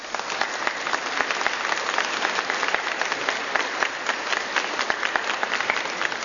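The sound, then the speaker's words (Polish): Sustained applause from a large audience at a Radio Maryja Family gathering, given as thanks, many hands clapping densely and steadily for several seconds at an even, moderate loudness, with no voices standing out. “Kochani, sobie nawzajem w Rodzinie Radia Maryja poprzez oklaski składamy serdeczne Bóg zapłać.”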